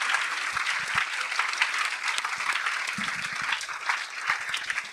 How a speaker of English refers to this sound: But for now, can you give them a massive round of applause? Thank you.